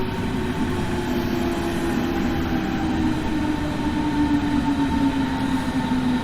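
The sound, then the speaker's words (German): An S-Bahn commuter train rolls in with a steady, loud rumble and a sustained electric hum that shifts slightly in pitch, plus faint high hissing from the wheels. No one speaks. “Oh, da kommt eine S-Bahn.”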